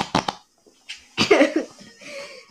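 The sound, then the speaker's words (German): A couple of sharp taps, then a short, buzzy, flapping whoopee cushion fart sound, trailing off into a soft rasp. “Mein kleiner Bruder hat ein Furzkissen bekommen. Hört mal hin.”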